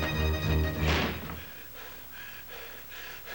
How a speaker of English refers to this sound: He bursts into his room, then slams the door shut.